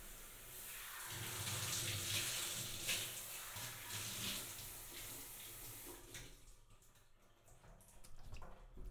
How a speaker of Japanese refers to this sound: シャワーでお流しいたします。